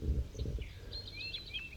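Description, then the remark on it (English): A banded bird calls in a quick string of thin, high chirps, faint, over soft low rustling and handling noise; no one speaks. “So that's 5-3 calling right there.”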